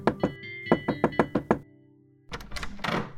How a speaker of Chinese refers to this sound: 彼得的话刚刚说完，一阵急促的敲门声响起来。